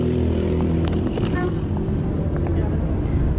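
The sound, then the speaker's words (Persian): A bus pulls up at a bus stop in Mashhad, its deep engine rumbling steadily throughout, with faint voices and street noise mixed in around it. “بده اتوبوس اومد.”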